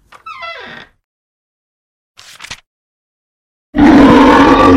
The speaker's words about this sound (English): From behind the door came continued loud bellows and great slams as of a rock club pounding the floor.